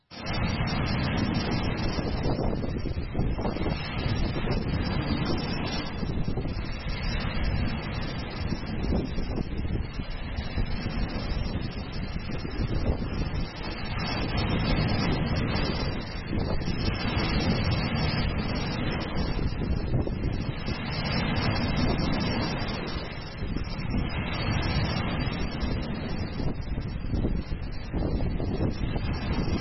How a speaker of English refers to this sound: we usually have a hard time understanding what does it mean that the boat was buffeted by winds and waves, by wind and waves. It's not nighttime, but I recorded a 30-second video. You just saw a portion of it, but let me show you the rest of it.